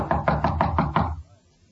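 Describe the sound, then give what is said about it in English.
A quick series of about six firm knocks on the door of a room at the end of a hall, evenly spaced, followed by silence. “Knock again.”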